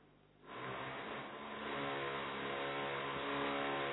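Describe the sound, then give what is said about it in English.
A car engine roars up suddenly and keeps revving with a steady, rising drone, fairly loud, from traffic outside. No one speaks. “It's a different type of traffic control.”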